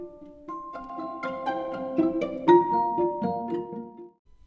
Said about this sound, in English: Anytime that you hear the chime, you can go ahead and flip the page if you would like to follow along in person.